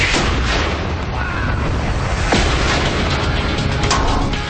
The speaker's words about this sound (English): has led to many a lagoon boom. 50 pounds of Ampho in 3, 2, 1. Bye-bye!